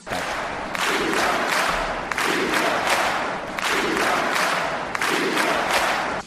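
A large crowd at Quim Torra's swearing-in shouts a rhythmic chant in support of prisoners, the same phrase repeating about four times in steady, loud bursts of massed voices with no break in the din.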